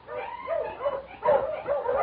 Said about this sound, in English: About 10 miles from town, I was mushing along the trail, and suddenly I heard a dog.